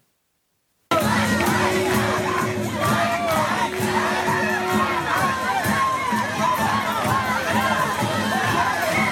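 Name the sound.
crowd chanting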